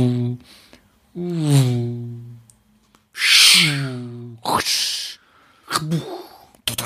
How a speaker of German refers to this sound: Bellt der Hund. Jetzt habe ich doofe Geräusche, weil jetzt bellt der Hund.